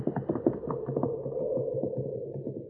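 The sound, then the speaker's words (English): Rapid, uneven hoofbeats of several horses galloping away, a dense drumming patter that holds steady at moderate loudness over a low rumble, with no voices. “Oh, the horses. He'll be after the horses.”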